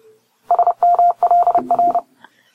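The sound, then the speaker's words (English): A quick burst of Morse code beeps, a steady mid-pitched tone keyed on and off in short and long pulses for about a second and a half, loud, with no talking. “That is the Morse code.”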